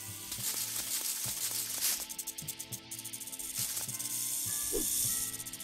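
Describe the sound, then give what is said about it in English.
A dry, buzzing rattle mixed with a steady hiss, like a video game snake, running for several seconds over a dense bed of game music and rhythmic mechanical clicks. “Jump over the snake.”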